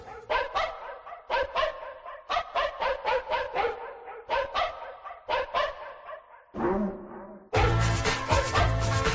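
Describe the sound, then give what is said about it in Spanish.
A dog barks loudly in quick clusters of sharp, repeated barks, with a few brief pauses, before a burst of music abruptly cuts in at the end. “un ladrido y comenzamos.”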